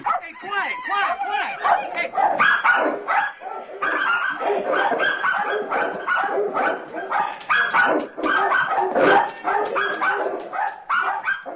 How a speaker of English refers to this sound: Hey, quiet. Those are our dogs.